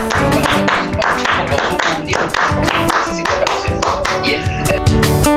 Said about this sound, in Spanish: Acá le mandamos unos aplausos. Un aplauso, muy bien.